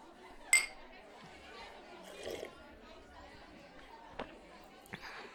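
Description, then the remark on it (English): A bright glass clink rings out early over a background of murmuring chatter, followed by a couple of softer taps later on, like drinking glasses meeting in a toast. “Cheers for the fifth time tonight.”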